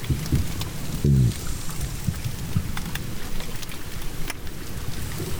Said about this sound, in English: Looking down into this crystal clear water, there's hardly anything moving, and yet there's this confusing array of squeaks, bumps, bangs, and rustles. Here, occasionally, are the low grunting sounds of a single cod.